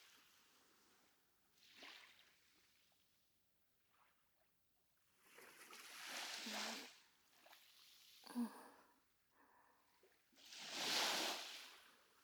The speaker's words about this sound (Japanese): 耳をそば立てると、波しぶきが砂浜に染み込んでく音も聞こえてくる。シュワシュワって。炭酸とは違うシュワシュワ感が耳に残って気持ちいいかも。